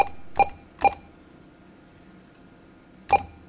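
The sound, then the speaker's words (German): A prize-draw winner's telephone number is dialed: about four short keypad tones, three in quick succession, then a pause before a final tone, over a quiet background hum. “Jetzt wähle ich eben die Telefonnummer.”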